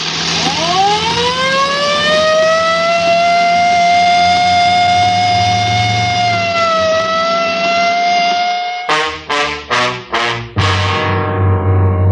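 police car siren wailing

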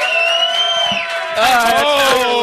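crowd booing

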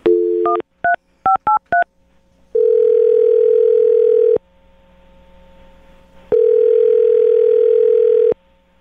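telephone dial tone

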